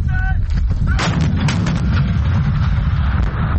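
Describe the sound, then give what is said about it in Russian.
An artillery gun of a Ukrainian Navy artillery brigade, crewed by first-line reservists in a training exercise at a firing range, fires with a heavy, booming blast that rolls into a long, deep rumble, with crackling bursts early on and the low roar sustained loudly to the end. “Учения на полигоне в артиллерийской бригаде проходят резервисты первой очереди, преимущественно те, у кого уже есть боевой опыт.”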